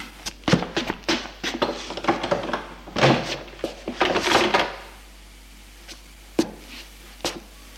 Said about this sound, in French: À part de loup, il suit le couloir et, précipitamment, il ouvre la porte d'entrée.